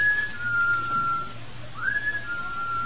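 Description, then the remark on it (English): A thin, steady whistle holds one high pitch, breaks off, then returns with a rising swoop before settling again, heard fairly clearly over a low background hum with no one speaking. “Well, what could that be? That whistle?”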